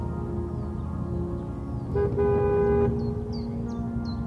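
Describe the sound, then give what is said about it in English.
A rental car comes up the road toward a cabin near the top of a slope, its engine rumbling steadily, interrupted midway by a brief horn toot lasting under a second, while faint birds chirp in the background. “The purr of a car came up the road, and he could see his own breath in its headlights.”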